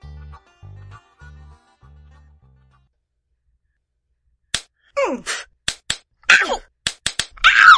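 Punches land during sparring in a rapid, irregular flurry of sharp smacks, mixed with short strained grunts, after a few low muffled thumps and a brief pause of silence.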